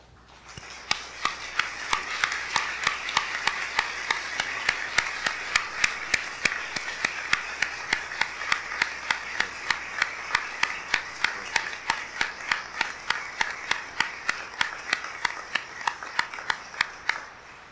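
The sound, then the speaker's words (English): A standing church audience applauds the Lord Jesus steadily for about seventeen seconds, a dense wash of clapping with a regular, evenly spaced beat running through it, and no voices. “Could we applaud the Lord Jesus?”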